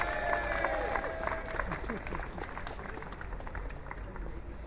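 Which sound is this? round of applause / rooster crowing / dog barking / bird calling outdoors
round of applause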